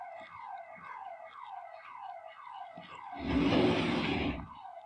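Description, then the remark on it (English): A car alarm goes off, a loud electronic tone repeatedly sweeping downward in quick, even pulses, briefly buried under a burst of broad rushing noise before the cycling continues. “somebody's car alarm went off, I think.”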